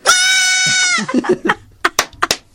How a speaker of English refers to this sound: This baby goat didn't yell loud enough, so the owner gave some words of encouragement. Oh, that's so wimpy.